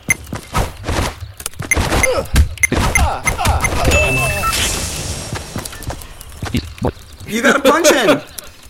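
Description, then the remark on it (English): A rapid series of dull, punchy, forceful thuds from video game melee fist punches, followed by a whooshing rush and a brief burst of voice near the end. “So with the fist, it's the same concept as the knife.”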